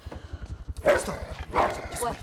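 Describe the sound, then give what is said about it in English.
A large dog confronting people barks twice, loud, a deep, gruff bark followed by a second one a moment later, over a steady low thumping pulse in the background. “A large dog confronts them.”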